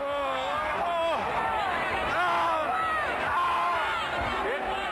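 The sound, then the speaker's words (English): A dense outdoor crowd at the 2010 Love Parade in Germany, packed at 8 people per square meter, roars continuously, with many voices shouting, whooping and calling over one another in a loud, unbroken wall of babble. “This was the Love Parade in Germany in 2010. Crowd density reached 8 people per square meter.”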